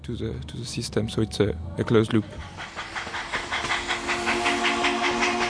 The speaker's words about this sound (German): Der heiße Wasserdampf versetzt dann eine Dampfmaschine mit Kolben und Zylinder in Bewegung